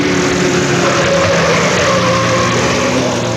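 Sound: car engine driving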